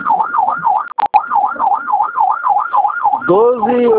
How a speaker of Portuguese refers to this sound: eu acho que a ligação não vai passar por causa da sirene ao fundo. E fica um pouquinho de tem um pouco de dificuldade de escutar o senhor respondendo as perguntas.